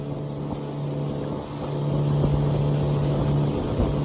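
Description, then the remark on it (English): A motorboat engine drones steadily on the Purus River in Acre State in the Amazon, in the rain, during a priest's religious expedition downriver; a low humming tone with a rough, buzzing edge that swells slightly louder partway through and runs continuously without any voices. “Motoring down the Purus, several days before his visit to São Miguel, he rubbed his beard and squinted through the rain-splatted glasses at the horizon.”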